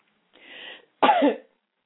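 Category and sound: human body sound, coughing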